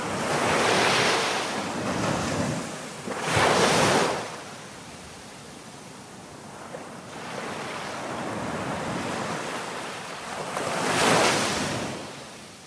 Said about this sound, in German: Da merkt man richtig das Meer.